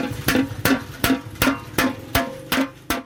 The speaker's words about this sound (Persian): بر یک دیگ کلان میسی با چکش میکوبد.